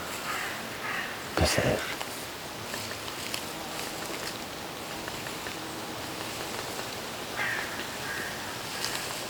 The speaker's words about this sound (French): Les corbeaux chantonnent l'arrivée prochaine de l'hiver.